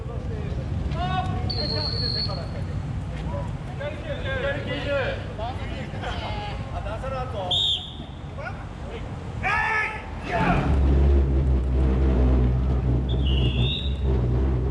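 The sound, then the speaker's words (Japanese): A crowd of dozens of pullers shouts and calls together as the Kajiya-machi treasure ship festival float is turned 90 degrees on the road while being brought into Dejima Messe Nagasaki, Nagasaki; the heavy float grinds and scrapes loudly along the ground, a deep rough rumble lasting several seconds under the voices. “これは梶屋町の宝船を出島メッセ長崎に搬入している様子の音です。”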